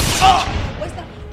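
A single loud gunshot, fired by a man shooting himself, bursts out at the start, then its harsh echo fades and rumbles away over the next second.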